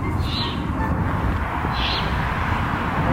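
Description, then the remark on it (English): Baby owls give two raspy, hissing calls from their nest in a tree in Milwaukee, about a second and a half apart, over a steady rumble of outdoor background noise. “And here's some of the baby owls.”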